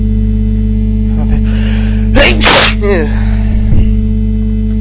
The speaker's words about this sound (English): Okay, so it's evening time, and I sneezed once, so I expect there will be more on the way.